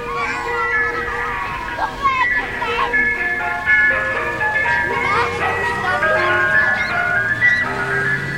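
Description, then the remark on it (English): A tinkling ice cream truck jingle plays a repeating melody, steady and fairly loud, with faint engine rumble and children's voices in the background. “Who wants some ice cream?”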